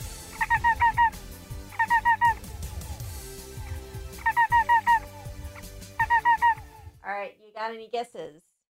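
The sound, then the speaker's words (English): A cricket's chirping, slowed down significantly: four bursts of rapid, warbling pulses, each a bit like a bird's trill, repeating steadily over a low rumbling background. A voice begins speaking at the end. “This is actually a cricket, but it has been slowed down significantly.”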